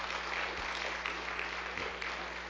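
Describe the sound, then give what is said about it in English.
A crowd applauds steadily to welcome a person invited up to the front, a dense wash of many hands clapping at once that holds at an even level throughout, with no voices standing out. “Let's clap”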